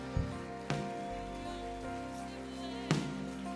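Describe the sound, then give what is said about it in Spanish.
A crowd claps in applause to the Lord, a steady, crackling patter over sustained organ-like musical tones, with a few sharper, louder bursts rising briefly out of the applause. “aplauso al Señor.”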